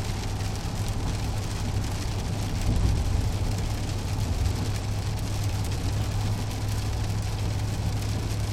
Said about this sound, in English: Listen to this rain, eh?